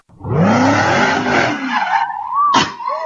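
Car tires squeal loudly and continuously as drivers spin donuts on the new 6th Street Bridge in California, the shrill screech wavering in pitch over a rumbling engine, with a sharp burst near the end.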